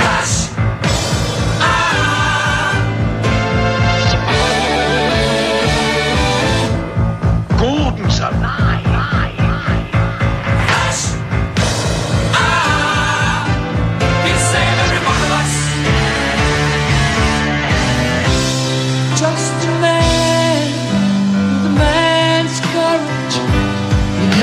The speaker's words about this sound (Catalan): en aquest cas estem escoltant la cançó principal, que sí que té, lletra també. Anem a sentir una miqueta més.